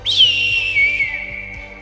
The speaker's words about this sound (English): As you start doing that, you hear like an eagle cry.